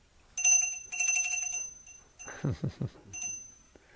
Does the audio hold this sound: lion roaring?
no